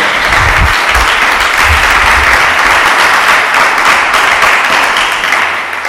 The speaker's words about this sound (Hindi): यीशु के लिए जरा जोरदार तालियां आ जाएं।